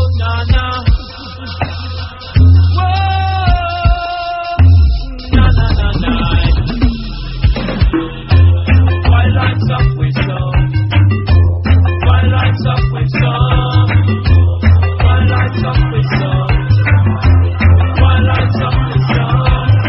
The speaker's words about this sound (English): I've had a chance to record some vinyl whilst at home and not being able to do much, so this is an all-time 10-inch.